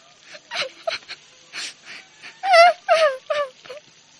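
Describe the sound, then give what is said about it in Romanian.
A girl crying: a string of uneven, high-pitched sobs with wavering, quivering wails and short gasping breaths between them, growing louder toward the middle before trailing off. “Spuse ea descurajată și începu să plângă.”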